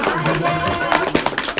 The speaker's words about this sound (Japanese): みんなないんか、うわー、ちょっとえらい若い人も拍手しよるばい。